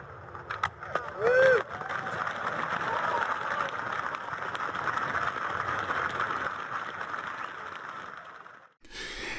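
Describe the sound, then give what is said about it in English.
Thin, scattered applause from a sparse audience after a poem recitation, a few hands clapping unevenly in a steady patter that runs for several seconds before cutting off, with a brief vocal sound near the start. “Listen to how sparse that audience sounds and the applause that are kind of like just a few hands clapping.”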